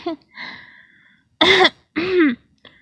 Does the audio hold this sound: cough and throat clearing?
yes